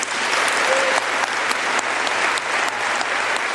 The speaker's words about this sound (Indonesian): Dari gemuruhnya tepuk tangan pada akhir pidato, dapat disimpulkan bahwa para delegasi memberi Margaret Chan nilai A untuk pekerjaannya dalam 10 tahun terakhir.